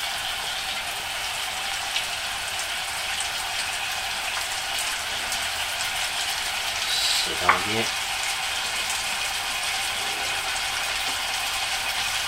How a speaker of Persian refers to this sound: جلز و ولز پیاز و گوشت اضافه کردم همه رو.